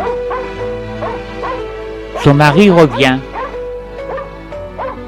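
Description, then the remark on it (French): A small dog lets out a quick, loud burst of high-pitched yaps, about four or five in under a second, inside an apartment, while a person speaks before and after. “Il entend japper dans l'appartement.”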